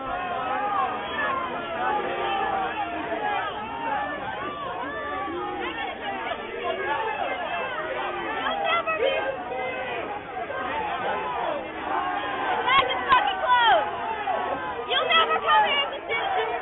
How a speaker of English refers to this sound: Dude, they're just hating in the Bay right here. Hating on Gene Kwan. Stop hating in the Bay, Gene Kwan. Oh, jeez. Oh, jeez. Getting booed.